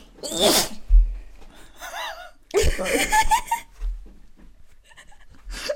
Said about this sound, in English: it's just a hand. Slightly on the hand while I'm sneezing.